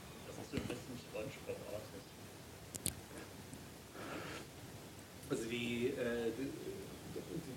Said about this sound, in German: Ja, man hört die Vögel, ne?